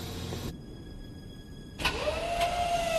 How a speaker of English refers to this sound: When they hear a winch overhead, they duck into a netted storage container in the back of the trailer.